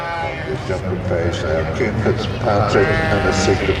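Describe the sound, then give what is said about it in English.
Sheep bleat repeatedly at an agricultural show ring in Northern Ireland as one sheep runs around the ring, wavering cries overlapping one another against a steady murmur of crowd noise and voices. “Sheep's just gone for a run around the ring there, but she's got a red rosette.”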